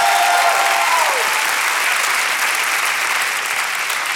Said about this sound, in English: Clap your hands real loud.